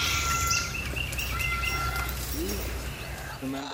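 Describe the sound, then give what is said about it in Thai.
Parrots calling at a rescue center for non-adoptable birds, home to 52 parrots living with cockatoos, macaws and African greys, over a steady low background hum, with scattered chirps and whistles, some brief bright squawks and a few longer wavering tones at moderate loudness. “นกแก้ว52ตัวของที่นี่อยู่ร่วมกับนกสายพันธุ์อื่นเช่นนกกระตั้วนกแก้วมาคอและนกแก้วสายพันธุ์แอฟริกันเกรย์”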